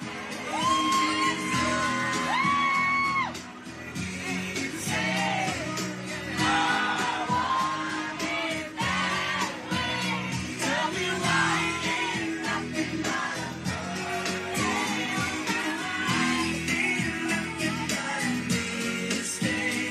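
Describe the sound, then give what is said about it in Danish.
On an evening in Tingbjerg, young people shout and whoop loudly and continuously, their rising yells overlapping in a lively, crowded din with thumping music mixed underneath. “Jeg kan høre unge mennesker, der råber.”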